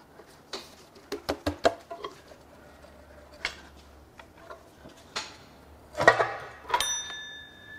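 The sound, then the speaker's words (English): Scattered small clicks and taps as the timing cover is pried off a Nissan engine, then a single bright bell ding rings out and lingers near the end. No one speaks. “That's the bell that it's done.”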